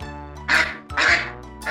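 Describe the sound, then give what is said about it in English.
A goose in a room, looking for food, honks twice, loud, each call a harsh nasal blare with a short gap between them, and a third honk just begins as the sound cuts off. “The goose is in my room.”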